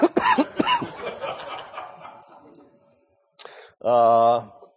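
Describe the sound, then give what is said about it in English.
A few harsh coughs burst out in quick succession, fade into a rasp, then one more sharp cough is followed by a brief voiced, throaty sound. “I was coughing less earlier today.”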